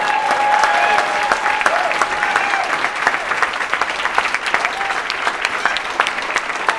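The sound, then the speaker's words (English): A crowd claps steadily and loudly for several seconds, a dense wash of hand claps with a few whistles or cheers rising above it, and no one speaking. “Let's have a big, big round of applause”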